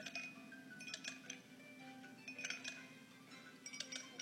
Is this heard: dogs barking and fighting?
no